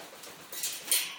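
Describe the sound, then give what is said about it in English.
A pet bird flaps its wings in a short flight, taking off and landing on a cage, making a few soft, airy whooshing bursts that build to a slightly louder final flap, with no one talking. “Well, you heard her do a fly anyway.”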